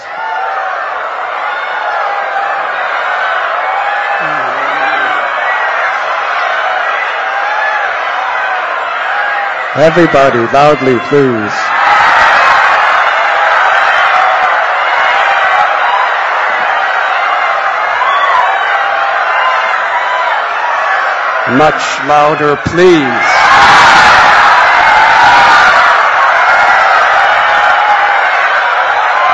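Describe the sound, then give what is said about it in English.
A large crowd keeps up loud, overlapping wailing calls imitating peacocks, rising and falling in pitch, with a single voice briefly urging them on twice and the noise swelling afterward. “And all the boys would start dancing like peacocks and making the sounds of the peacock.”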